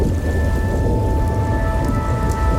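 A steady, dense downpour of heavy rain with a deep, continuous rumble underneath, like thunder rolling through the storm. It stays loud and unbroken throughout, with no voices.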